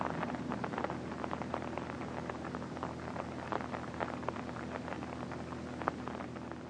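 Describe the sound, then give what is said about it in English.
Steady rain falls at night, hissing without pause, broken by countless small patters and taps of drops, a soft, even wash of sound with no voices. “Now it'll rain the rest of the night.”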